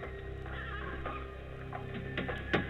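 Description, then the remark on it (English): A horse whinnies in a long, wavering neigh while hooves clip-clop steadily underneath, as a black coach drawn by four black horses moves along a road at night; a few sharper hoof strikes near the end; no one speaks. “There's a coach and four horses moving, coming toward me.”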